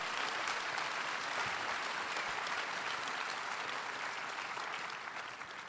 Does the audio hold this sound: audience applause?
yes